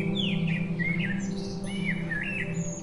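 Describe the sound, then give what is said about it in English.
Several small birds chirp and tweet in quick, overlapping bursts throughout, bright, over a steady low background hum with no one speaking, at sunset in a little village along the border of Iran as the birds fly home to rest. “The sun was setting and birds were flying home to rest.”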